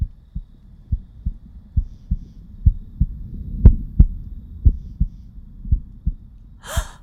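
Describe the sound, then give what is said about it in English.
A steady heartbeat of a statue thumps low and muffled in an even rhythm of a dozen or so beats, ending with a brief breathy rush. “What am I hearing? That sounds like a heartbeat.”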